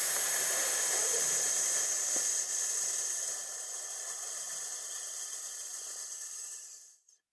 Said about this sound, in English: Stand in the diva-devo position. Breathe in from your abdomen. Breathe out and hiss.